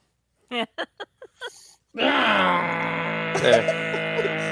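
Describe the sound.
A voice imitates a motorcycle engine: five short sputtering revs, then one long, loud, buzzing drone that holds steady with a slight wobble in pitch until the end.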